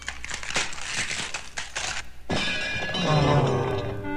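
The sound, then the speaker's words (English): A run of loud, clattering metallic knocks as the heavy first Liberty Bell, cast in England, falls and hits a man on the head several times, then a heavy crash as it hits the ground and shatters into many pieces, leaving a bright, ringing metallic hum with fragments rattling beneath it. “After hitting him in the head several times, it fell to the ground and crumbled into 1,000 pieces.”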